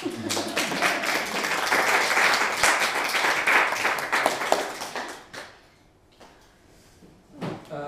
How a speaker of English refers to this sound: One last applause for all three.